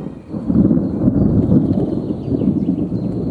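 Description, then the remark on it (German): A heavy thunderstorm on the Mediterranean coast of Catalonia in summer, with rolling thunder: a loud, deep rumble that swells and churns continuously for several seconds, with no voices present. “An der Mittelmeerküste braut sich ein heftiges Gewitter zusammen.”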